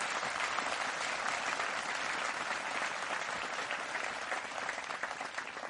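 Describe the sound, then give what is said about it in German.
An audience at a church service applauds steadily to welcome newcomers from Aleppo, Homs, Kabul and Eritrea, a dense, even patter of many hands clapping that holds at a fairly constant loudness for several seconds, with no talking over it. “Wir wollen Sie besonders begrüßen mit einem Beifall hier, dass Sie unter uns hier sind und mit uns hier diesen Gottesdienst feiern.”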